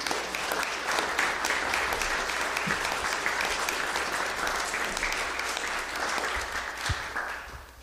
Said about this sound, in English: So would you guys come on up? And why don't you give them a round of applause as they come on up.